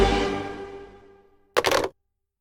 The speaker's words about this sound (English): Crunch. I broke a tooth. Eating my ghost cookie